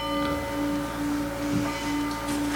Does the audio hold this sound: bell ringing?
yes